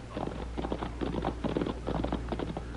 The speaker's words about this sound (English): Quiet, Tommy. I hear horses.